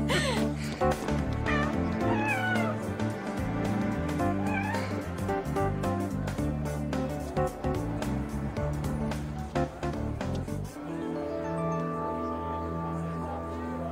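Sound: cat meowing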